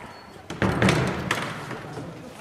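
A man unlocks a door and pushes it open: a solid clunk followed by a second knock a moment later, with a hollow tail and no voices.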